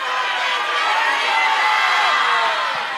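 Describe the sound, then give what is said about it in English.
A large crowd yells their full names, including middle names, all at once on a count of four, a dense, loud roar of overlapping voices, a jumble of yelled words that holds steady for about three seconds. “On the count of four, upwards, yell your full, including middle name.”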